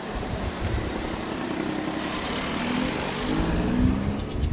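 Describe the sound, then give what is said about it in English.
Unrein's smart car engine hums and rumbles steadily with no voices, its pitch climbing slightly as it pulls off and drives away, the sound swelling a little near the end. “There will be many more miles for Unrein's smart car before he puts this day behind him.”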